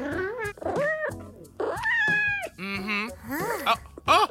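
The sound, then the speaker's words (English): A pet cat meows repeatedly, a string of five or six loud, drawn-out calls that rise and fall in pitch, with brief pauses between them and no one talking. “Okay, now, Cat, let's start with you. Run us through a typical day in your life as a pet cat.”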